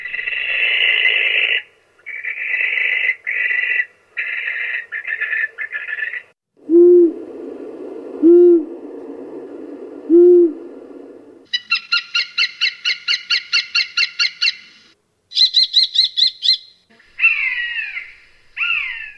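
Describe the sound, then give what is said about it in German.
A sequence of bird-of-prey calls heard at a birds-of-prey exhibition at the Naturmuseum Olten: low, evenly spaced owl hoots, harsh screeching bursts, rapid chattering series and thin high whistles, loud with no voices. “Und dann kann man natürlich auch hören, wie die Herrscher der Lüfte so tönen.”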